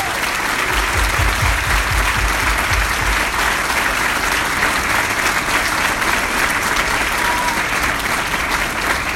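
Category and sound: crowd, loud applause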